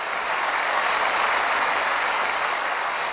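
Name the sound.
hand clapping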